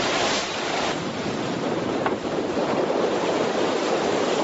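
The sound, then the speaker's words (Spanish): A rough, choppy sea churns continuously in a cold storm, with gusting wind roaring over the surf, a dense, steady wash of noise with no voices. “Vaya hombre, tenemos frío y tormenta. Sí, o mar un poco bueno, picado.”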